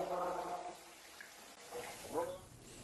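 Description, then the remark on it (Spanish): Drinking water runs steadily with a soft, continuous hiss while a voice talks briefly over it at the start and again near the end. “Si quieres tomar agua, esta es el agua que se toma, mira.”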